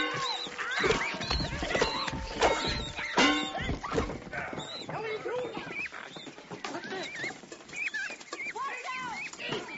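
A flock of geese honks and calls nonstop, many loud, nasal cries overlapping into a dense chorus that carries on throughout.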